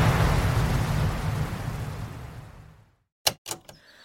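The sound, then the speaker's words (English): The Old Faithful geyser's eruption gives a loud, broad rushing roar of spraying water that holds steady, then fades away over about three seconds, followed by a brief silence and two or three sharp knocks. “The water from Old Faithful can reach heights of 180 feet!”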